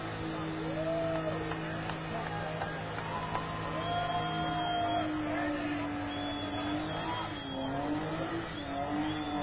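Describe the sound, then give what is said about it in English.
A car engine revs hard and steadily during a smoky burnout, the car enveloped in smoke and moving slightly, its pitch climbing and dipping in long surges over a constant roar, with faint voices in the background. “This car is being enveloped in smoke.”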